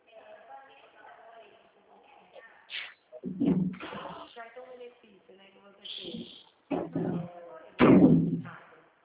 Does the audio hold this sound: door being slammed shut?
yes